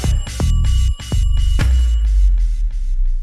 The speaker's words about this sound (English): The bells are ringing. That means it's time for question time.